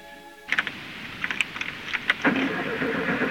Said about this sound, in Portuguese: Atordoado e confuso, Adolfo sai daquela casa, vai até o carro e tenta fazê-lo funcionar.